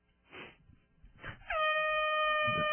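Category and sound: sound effect, air horn blast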